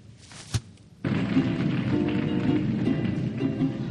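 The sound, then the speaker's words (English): A single soft thump, then after a second a dense, steady rain-like patter starts abruptly and continues evenly, made with a cheap prop imitating rainfall, moderately loud. “You see, just a cheap prop. Hopefully you think of rain.”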